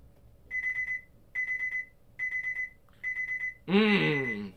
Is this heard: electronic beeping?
yes